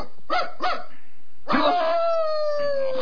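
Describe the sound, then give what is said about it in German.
A Great Dane barks in Hampstead: two quick, deep barks, a short pause, then a long, drawn-out bark that stretches into a howling, sliding tone. No one is speaking. “Das ist die dänische Dogge in Hampstead. Pongo, kläffe nicht.”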